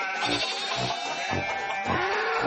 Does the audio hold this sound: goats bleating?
yes